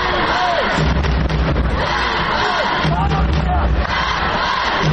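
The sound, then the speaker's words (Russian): A large crowd of HC Donbass (Donetsk) hockey fans, more than 200 who travelled to Kyiv, roars and cheers continuously from sector eight, with overlapping shouts, whistles and bursts of noise at a steady, loud level. “Восьмой сектор раскрасился в цвета донецкого «Донбасса». Более 200 человек приехало поддержать команду.”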